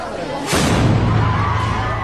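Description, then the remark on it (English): A single sharp explosive bang, from what appeared to be a smoke bomb thrown at an outdoor speech venue in western Japan where Japanese Prime Minister Fumio Kishida was due to speak on Saturday, bursts out about halfway through, followed by a sustained roar of crowd noise and commotion that stays loud to the end. “An explosion is heard at a venue where Japanese Prime Minister Fumio Kishida was due to make a speech on Saturday.”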